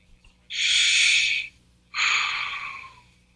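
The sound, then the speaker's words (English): Two slow, deep breaths from a person practicing deep breathing: a long airy inhale followed by a long, gradually fading exhale, with a short pause between them and no talking. “I'm practicing deep breathing, but breathing and respiration are two different things.”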